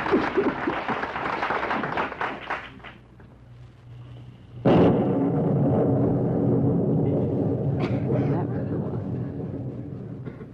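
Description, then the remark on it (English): Voices talk briefly, then a sudden loud crack of thunder breaks in and rolls into a long, steady, deep rumble that slowly fades over several seconds. “That's Thursday from Thor. That's right, because it was thunder.”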